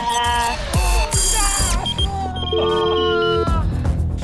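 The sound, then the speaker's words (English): A quiz timer alarm goes off, a loud cluster of electronic tones and a sustained buzzing note that ring steadily for several seconds, filling the moment with no one speaking over it. “Yeah, unfortunately, the clock has gone about 10 seconds”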